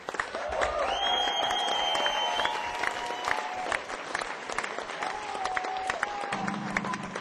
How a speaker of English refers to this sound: Could you also do me a big favour and thank everybody here at the Moya venue? It's been a fantastic arena for us this evening. Guys on lights, guys on sound, and then what a great job they've done. Give everybody here a big round of applause.